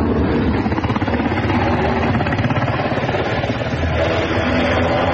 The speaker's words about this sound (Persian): هلیکوپترهای متعدد در فضای کابل در حرکت هستند و گمان می رود که دیپلمات های سفارتخانه های مختلف و نیروهای خارجی را به میدان هوایی کابل منتقل می کنند.